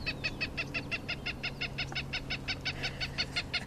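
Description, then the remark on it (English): A Cooper's hawk call played from a bird-identification app on an iPad, a rapid, steady series of sharp cackling notes, about seventeen in quick even rhythm, played back clearly over a faint low hum, with no one talking. “Something that can be a bit problematic, especially when she demonstrates by playing the call of a Cooper's hawk.”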